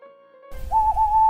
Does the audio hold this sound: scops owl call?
yes